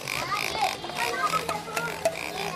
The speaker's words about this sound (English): An oinking, tail-wagging pig and a wide-eyed plastic soldier beating a drum compete for children's attention as they race into a toy store in Johannesburg.